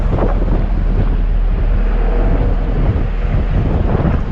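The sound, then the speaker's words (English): Strong wind buffets the microphone in a steady, loud roar, with a low engine rumble and faint water wash underneath, on the open top deck of a moving ferry crossing a large lake. “Alright, I guess we're on the top of the ferry here.”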